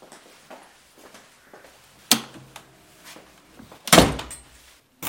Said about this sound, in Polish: Drzwi zamknijcie.